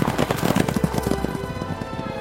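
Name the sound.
horse galloping hoofbeats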